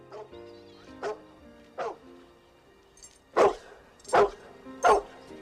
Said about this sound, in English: He looks up at Hooch barking through a window. Hooch puts his paw on the metal bars.